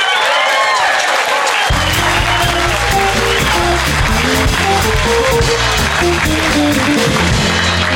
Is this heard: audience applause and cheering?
yes